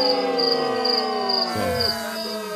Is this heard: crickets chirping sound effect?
yes